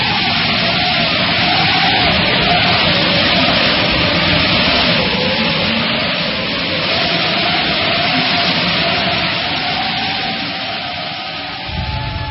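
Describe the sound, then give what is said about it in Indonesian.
A strong, steady desert wind roars with a dense hiss of blowing, swirling sand, a broad, unbroken rush that eases slightly toward the end. No one speaks. “Angin yang kencang itu semakin lama semakin mereda dan akhirnya hilang sama sekali.”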